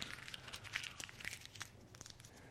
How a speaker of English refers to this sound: What if I crumpled it up?